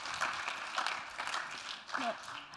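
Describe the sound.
A crowd applauds as a student guest is called onto a stage, in a steady wash of clapping that holds at a fairly even level throughout, with a brief voice or cheer rising over it near the end.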